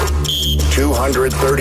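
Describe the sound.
A brief, steady electronic game show buzzer tone sounds for about a third of a second, followed by people talking over a constant low background hum.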